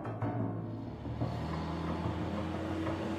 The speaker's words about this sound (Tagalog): Nang umalis ang truck ay tinanaw ko lang yun.